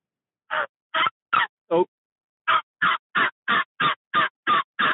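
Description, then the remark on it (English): Sharp turkey clucks from a call: four evenly spaced notes, a short pause, then a quicker, excited run of eight cutting clucks, loud and clear with no talking. “And then you do your clucks, and then you add like you add a cut into it to add that enthusiasm to it.”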